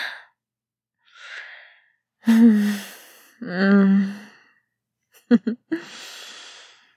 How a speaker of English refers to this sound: You're breathing all heavy.